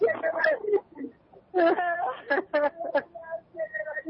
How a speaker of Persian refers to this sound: قربون این گریه ها، فدای این اشک هایی که از راه دور، فدای این اشک هایی که سمت کربلا. میدونم دلتون تنگه مادر جان.